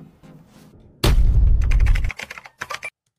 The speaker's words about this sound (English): Dude. Not the fucking bowling sound, bro.